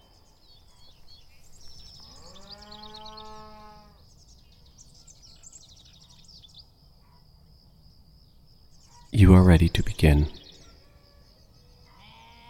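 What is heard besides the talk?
farm animal sounds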